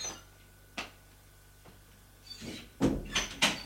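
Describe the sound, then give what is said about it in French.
A bedroom door on the second floor is opened: a couple of soft latch clicks, then a short cluster of louder knocks and rattling as it swings open. “Arrivé au deuxième étage, il ouvre la porte de sa chambre.”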